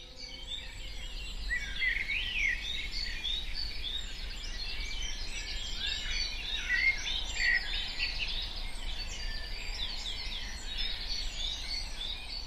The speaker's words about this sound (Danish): Eller bare lyden af fugle, der spiller i baggrunden.